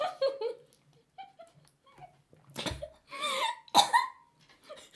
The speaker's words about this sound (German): Das klang wie der Umbridge-Booster aus Harry Potter. Stimmt. Ich wollte das trinken durch ein Schlürfen. Das wollte ich ja machen, habe ich derb verschluckt dabei.